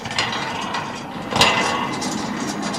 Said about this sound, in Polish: Twardowski wszedł do jesionki i przyglądał się, jak stróż odsuwa ciężkie, niby więzienne zasuwy.